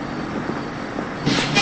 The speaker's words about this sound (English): People are getting on a city bus